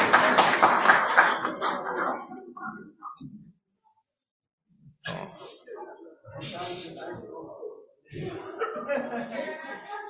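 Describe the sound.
An audience bursts into applause mixed with chuckles for the first-, second- and third-place groups of a game, which fades into a brief lull before scattered clapping, laughter and crowd voices return in two more waves.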